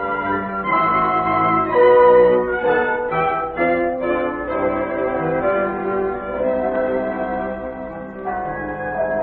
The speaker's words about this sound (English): Listen to the bells, my darling. Oh, they're beautiful. They're telling everyone in Vienna that you're my wife.